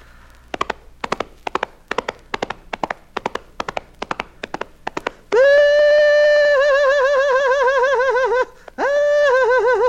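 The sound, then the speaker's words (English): Wild horses' hooves clatter in a quick, steady gallop for several seconds, crisp, just after a thunderstorm, then a loud, wavering horse whinny rings out twice, with no talking. “You know how wild horses sometimes feel so wonderfully fresh, heads high in the sky, tails high and galloping down the ways.”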